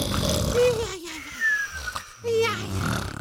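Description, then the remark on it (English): Loud snoring in a few rough, rattling breaths, with snorting, wheezy tones rising and falling between them and a brief quiet gap in the middle. “If this sounds like you or your partner, get down to the Snore Store.”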